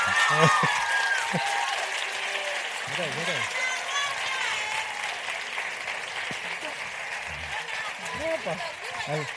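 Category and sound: crowd, audience applause and cheering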